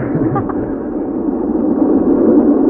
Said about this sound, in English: And this is the subway